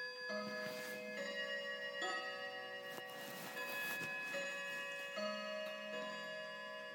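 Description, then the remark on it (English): A clock ticks steadily about once per second, each tick crisp, while the clock's sustained ringing chime tones hum underneath throughout. No one speaks. “I like the time on that clock.”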